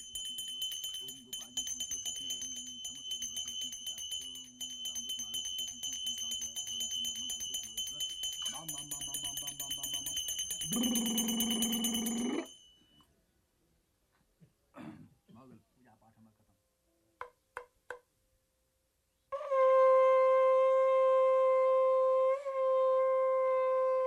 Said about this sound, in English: Every hymn's punctuated by bells or the conch shell.